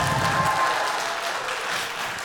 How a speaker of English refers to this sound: I like when you coax them into applause.